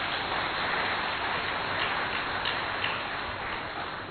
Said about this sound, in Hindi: एक बार फिर जोरदार तालियां।